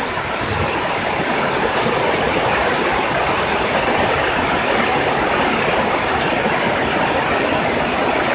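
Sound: rain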